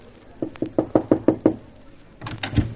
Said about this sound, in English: Shall we knock or just barge in? Oh, knock. It's more polite. Well, toujours la politesse. We knock.